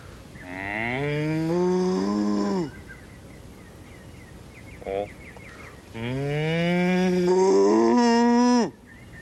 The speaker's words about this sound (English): Cow. Yep.